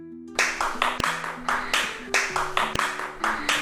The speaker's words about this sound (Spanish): Así suenan las palmas en el flamenco.